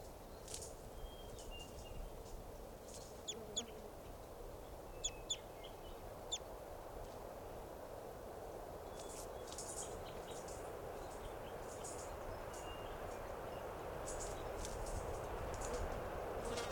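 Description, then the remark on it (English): A flock of about 10 or 12 type 2 birds, perched at the top of a tall Douglas fir by a camp, gives short, sharp, high call notes, scattered singly at first, then in busier bursts, over a steady low background hiss. No one speaks. “Our type 2s must be about 10 or 12 birds. And now they're perched up on the top of a tall Douglas fir.”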